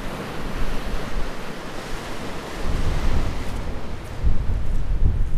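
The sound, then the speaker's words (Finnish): Steady wind buffets the microphone on an open shore on a windy day at Utö, in the middle of the sea at Finland's southernmost shore, with waves washing and surging in the background, rising in gusts toward the end; no one speaks. “Joo, tuulinen päivä Utöössä, niin kuin täällä yleensä on.”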